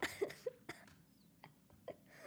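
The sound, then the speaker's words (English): A coughing fit: a rapid cluster of harsh, sharp coughs at the start, then a few more scattered hacking bursts after a short pause, with no talking. “It's like every 8 episodes, I'm going to have a coughing fit.”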